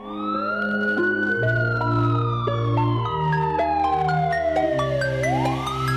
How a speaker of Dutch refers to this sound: Ik hoor sirenes, ze komen er weer aan. Denk dit is menens, agenten in de zaak.